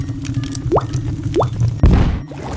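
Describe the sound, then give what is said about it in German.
Three drops of acid plop one after another into a test tube holding powder, two clear rising blips followed by a brief fizzy splash, over a low steady hum with no talking. “lässt den Inhalt in ein Reagenzglas rieseln. Und dann noch 3 Tropfen Säure der Pupsstinkefrucht.”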